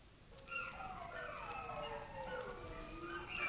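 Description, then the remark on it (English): Several wolves howl together in long, wavering, overlapping tones that rise and fall, fairly soft, on a chilly, clear night with the moon up, with no voices present. “Those wolves have come uncommon close, and the moon's up.”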